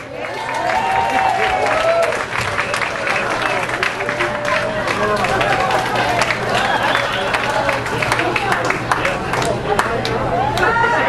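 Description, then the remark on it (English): A comedy show audience applauds steadily as comedian Perry Kurtz is introduced, with dense clapping mixed with whoops and cheering voices, loud and sustained for the full stretch without letting up. “Let's hear it for Perry Kurtz.”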